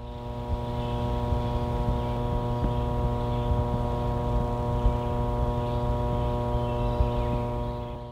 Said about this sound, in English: If you guessed a hydroelectric power facility, you were right. That was water flowing through the Clater Hydroelectric Project Dam on the New River in Pulaski County, followed by the buzz of power lines carrying electricity from the facility.